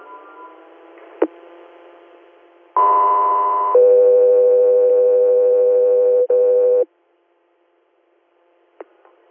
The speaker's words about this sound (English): Got the Riviera, stand by for tones.